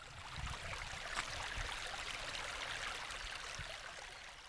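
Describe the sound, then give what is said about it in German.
Many small mountain streams babble steadily beside a hiking trail leading to a hut on the Gaiskopf near Bischofsmais, a continuous bright rush of flowing water with light trickling detail and no voices, holding an even level throughout. “Die vielen kleinen Bäche am Rand versüßen mir die anstrengende Wandertour.”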